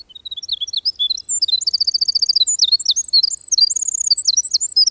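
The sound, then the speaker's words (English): A winter wren sings a long, rapid, high-pitched song of tumbling notes and fast trills, bubbling continuously without pause, clear with no voices. “The tiny winter wren spins this exquisite silver-threaded song only on its breeding grounds, deep dark spruce woods and bogs not found much further south of here.”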